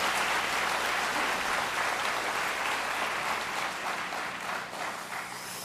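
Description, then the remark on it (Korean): A crowd applauds a choir steadily for several seconds, a dense wash of many hands clapping at once, loud and sustained, easing slightly near the end with no voices over it. “다시 한번 합창단에게 큰 박수 보내주시기 바랍니다.”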